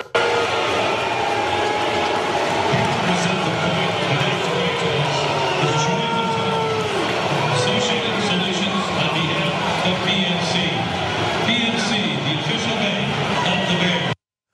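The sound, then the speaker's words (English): A large stadium crowd in Chicago boos loudly and steadily as the Steelers come out, with low, droning boos swelling and dipping over a constant roar of many voices for about fourteen seconds. “One last thing, and then people said, oh yeah, but did you know that the Steelers were booed when they finally came out?”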